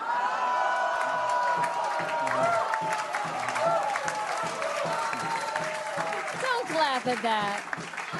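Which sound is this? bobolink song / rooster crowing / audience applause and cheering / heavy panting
audience applause and cheering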